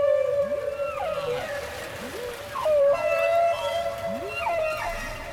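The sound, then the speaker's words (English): Underwater whale calls picked up by a whale-tracking boat, a series of rising and falling tonal whistles and moans repeating over a steady hum, with no voices present. “You can actually see images of sounds that are being made in the background, and that enables us to track whales 24 hours a day.”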